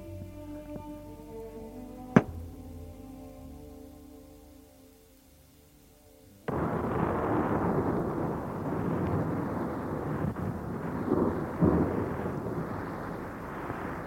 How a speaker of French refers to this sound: Et tout à coup, l'orage arrive.